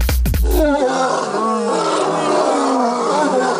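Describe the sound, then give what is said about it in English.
A pride of lions roars together in a loud, sustained chorus, deep rumbling calls overlapping continuously, with no talking. “And that was a pride of lions roaring away.”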